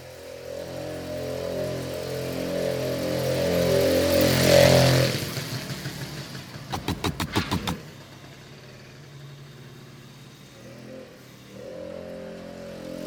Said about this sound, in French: Des sons, ben, c'est le bruit des motos là, les mobilettes là, qui m'énervent.